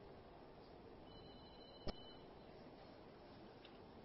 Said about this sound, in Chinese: 你们可以把电话机把它关掉吗？不能关掉吗？